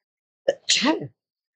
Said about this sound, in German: Ich muss niesen.